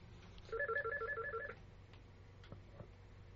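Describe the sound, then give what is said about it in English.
A telephone rings once with an incoming call, a rapid electronic warbling trill lasting about a second, then stops, leaving a quiet low hum and a couple of faint clicks. “Hold on. We got a call.”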